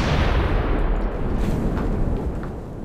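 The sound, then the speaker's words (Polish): A dynamite explosion set in a crevice brings down a whole wall: a loud, deep rumbling roar that fills the whole stretch, heavy in the low end with crackling debris noise on top, slowly easing off toward the end. No voices. “Dobra, dawaj ten dynamit.”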